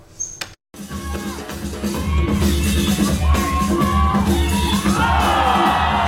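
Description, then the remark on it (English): A large crowd roars and cheers continuously at a dance battle final in Taiwan as a 17-year-old dancer shows off his moves, with shouts and whoops rising above a dense wall of noise that stays loud after a brief cut near the start. “shows off his moves to a roaring crowd.”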